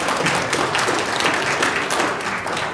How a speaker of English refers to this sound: God's blessings to you both. Yes. Yeah, we should clap for them.